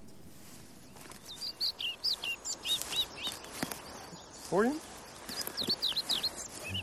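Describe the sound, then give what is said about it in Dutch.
A colour-ringed flycatcher sings short, high, repeated phrases amid a chorus of other birds outdoors in the Dwingelderveld, with a brief spoken question from a voice partway through. “Tussen alle andere vogels door. Tussen alle andere vogels. En dit is een bijzondere vogel.”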